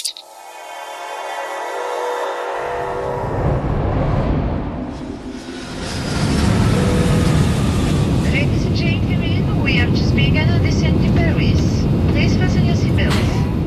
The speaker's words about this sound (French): Nous sommes dans l'avion, vous quittez le Canada pour la France, vous avez 21 ans.